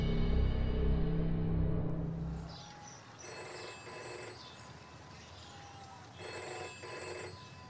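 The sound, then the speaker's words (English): A telephone at Heath House in Shropshire rings in repeated electronic bursts with pauses between them as a secretary calls, going unanswered, after a low rumbling sound fades out. “Two days later, Simon's secretary phones Heath House. When he doesn't answer”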